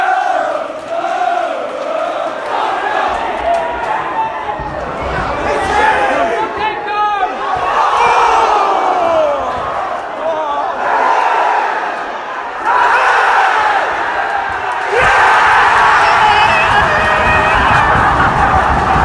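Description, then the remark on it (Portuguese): A large stadium crowd of football supporters roars and chants continuously after their team equalises in the second half, voices massed together with rising cheers and shouts, loud and sustained throughout with no single speaker standing out. “Marcos Fio marca 1-0 e um minuto depois o Indo já marca empatando a partida. E essa é a título da torcida agora.”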